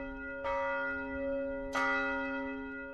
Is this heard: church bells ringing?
yes